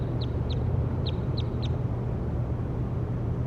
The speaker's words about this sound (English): That was bird 60.